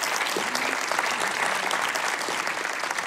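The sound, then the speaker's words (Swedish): Steady, dense audience applause welcoming a geriatrics specialist from Karolinska University Hospital in Stockholm, many hands clapping in a continuous loud wash of sharp claps throughout, with no voices rising above it. “En stor applåd!”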